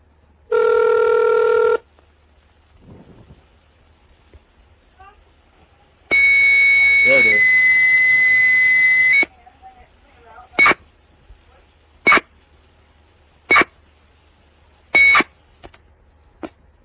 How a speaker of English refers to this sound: Now this one should pick up. I dialed up this phone using Hyper Terminal.